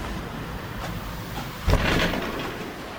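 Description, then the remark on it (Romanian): A swinging door in a hotel is pushed open, a sudden thump followed by a brief airy swish that fades, set against steady low background noise with no talking. “Trecem prin ușa batantă.”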